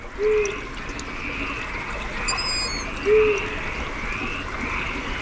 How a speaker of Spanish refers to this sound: sobre todo los chillidos muy agudos de los pollos de búho chico. Las ranas, está claro quiénes son, y estos chillidos, pip, pip, aquí delante, son los pollos del búho, y el búho está al fondo, ese que dice búho.